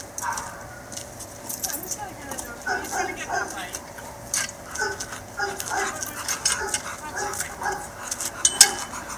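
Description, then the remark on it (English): A dog named Boo, filmed in Santa Cruz while being evaluated for another shelter, makes short repeated barks amid clattering, jangling household noise, with faint indistinct voices in the background. “He was a dog that we were asked to evaluate for another shelter.”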